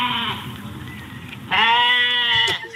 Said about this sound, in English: Is that a goat? Yeah, it's my pet goat. Oh, how cute. Isn't he cute?